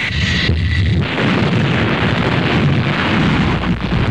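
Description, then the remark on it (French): A loud, deep torpedo explosion recorded underwater, rolling into a heavy, sustained roar of low rumble and churning noise that fills the whole stretch without fading, with no voices. “Et son explosion.”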